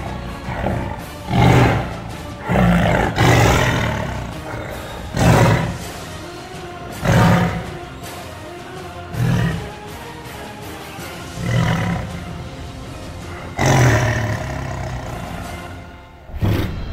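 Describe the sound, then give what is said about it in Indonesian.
A tiger roars and snarls aggressively in a string of loud bursts roughly every two seconds, as if fighting, with deep growling between the outbursts and no talking. “Sebelum napas harimau habis, ia berhasil melukai bagian vital dari tubuh Maesa Danu.”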